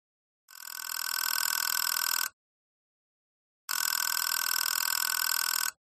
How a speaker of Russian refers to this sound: Телефон звонил требовательно и настойчиво. Сомнений не оставалось. Управительственная линия. Прям под ухом надрывается.